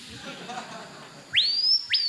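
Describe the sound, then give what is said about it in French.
A screaming piha (Lipaugus vociferans), called Pio Hurleur in French and Paille Paillot locally, gives its piercing whistled call: a loud note that sweeps sharply upward and holds high, then a second rising whistle begins, over faint background hiss. “C'est le Pio Hurleur de son vrai nom français et le Paille Paillot de son nom local.”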